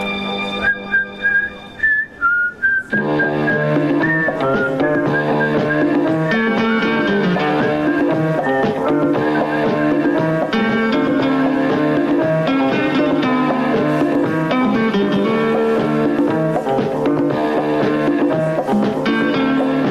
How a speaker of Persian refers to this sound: شنیدید تیتراژ سریال طلاق بود که ایشون ساخته بود. اصلا انتخاب بی‌نظیری به نظر من از ایشون برای همچین چیزی، همچین سریالی.